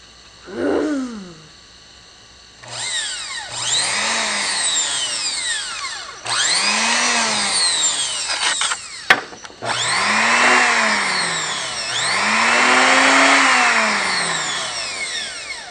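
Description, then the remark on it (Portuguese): A car engine revs in several loud, whining surges, its pitch sweeping up and down with each burst, after a short opening whine; the sharp click midway is a handbrake; no one speaks. “Vocês vão ouvir o motor do meu carro.”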